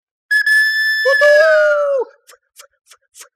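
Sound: steam locomotive whistle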